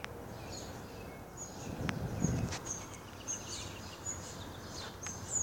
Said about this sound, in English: The birds are active this morning. Flying around, chirping, talking to each other, passing on the news.